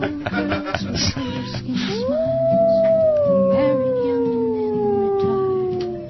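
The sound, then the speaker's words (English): A voice imitates a wolf howl: one long, loud wail that swoops up and then slowly slides downward for several seconds, following a brief burst of choppy sounds. “Yeah, I listen to this as an Armenian wolf child in Buffalo.”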